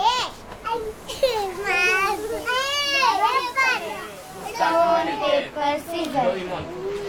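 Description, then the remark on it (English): Several children shout and call out in high, excited voices while playing cricket in a street of a congested neighbourhood, their overlapping cries rising and falling continuously with loud peaks throughout. “There are so many children who are playing in a street and they are shouting.”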